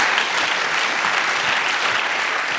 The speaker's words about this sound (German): Aber das war jetzt erstmal unsere Präsentation und das ist Stereotyper. Ganz vielen herzlichen Dank. Applaus.